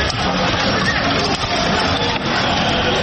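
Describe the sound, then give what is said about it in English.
A dense crowd of opposition protesters in the streets of Pristina, angered by an EU-brokered deal with Serbia, roars continuously, many voices shouting and blending into a loud, steady wall of noise with no pauses. “Somewhat what way it sounded, the crowds angered by EU-brokered deal with Serbia, which allows Serbian-majority municipalities within the predominantly ethnic Albanian state to establish an association and have more autonomy.”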